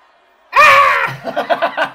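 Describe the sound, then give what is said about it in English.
A person lets out one loud, raspy, ferocious yell imitating a goblin, followed right away by a string of short, rhythmic guttural bursts that sound like cackling laughter. “Give me a goblin yell, just one.”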